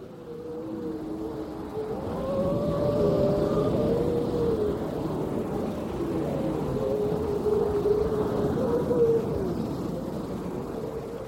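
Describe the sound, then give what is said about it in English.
Seals howl with long, wavering, overlapping moans that rise and fall continuously over a steady low rumble of wind or water, with no one speaking; heard from a Hebridean Whale and Dolphin Trust vessel anchored in a bay off the island of Mingalay in late September, the seal pupping season. “Suddenly we heard the howling of seals.”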